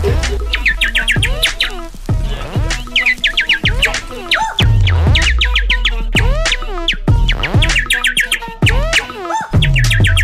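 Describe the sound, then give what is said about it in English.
A person whistles a bird-like call that also resembles a car alarm, a continuous run of bright, chirping warbles and trills repeated in quick bursts, loud, with no talking. “I never heard somebody like make a whistle sound like that. Yeah, bird and a car alarm.”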